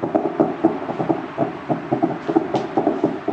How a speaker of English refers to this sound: Now, as we mentioned a few minutes ago, explosions are ringing out around Libya's capital, Tripoli. Anti-aircraft fire can also be heard.